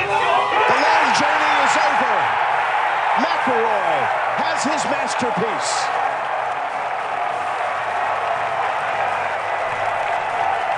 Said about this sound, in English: That's a good crowd pop, though, too. It's a great crowd pop.